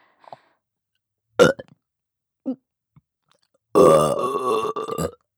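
burping

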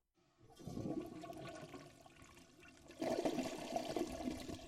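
toilet flush

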